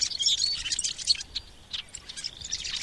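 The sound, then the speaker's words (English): A rusty blackbird gives a gurgling, creaky call, a jumble of high squeaky notes rising and breaking in bursts like tape wound backwards, with no talking. “Did you hear that gurgle just then? Tape being wound backwards, like that.”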